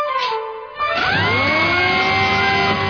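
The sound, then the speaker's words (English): A dentist's drill revs up with a rising, high-pitched whine, then holds a loud, steady whirr for a few seconds, with no voices. “It's just a drill that hurts.”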